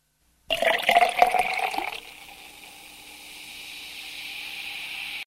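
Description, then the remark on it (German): Water is poured briskly into a glass for about a second and a half, splashing and gurgling, then settles into a faint, steady hiss. “Ein Glas Wasser, bitte.”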